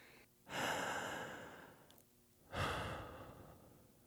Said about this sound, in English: After she puts the last point on, it's pretty rapid. She closes herself off to what's happening around her. She closes her eyes and starts breathing deep.